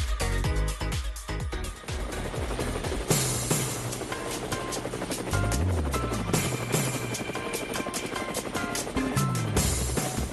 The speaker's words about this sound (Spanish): Pero ahí están las aspas del helicóptero, yo tengo mi nasobuco, mis guantes y, por supuesto, ya estoy en el helicóptero